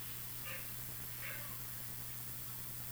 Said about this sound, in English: Wow, somebody's dog is barking.